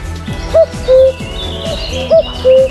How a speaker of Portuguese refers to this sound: A transparência de um rio que podemos atravessar a pé e a beleza dos pássaros do vale.